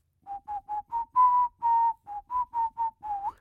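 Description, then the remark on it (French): A person whistles a short, simple folk tune in a minor key, about eleven clear notes at a steady pace with two longer held tones in the middle, alone. “sur lequel je peux siffler au clair de la lune”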